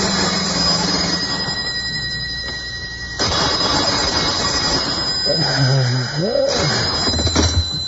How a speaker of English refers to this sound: It was almost 2:30 in the morning when the phone awoke me.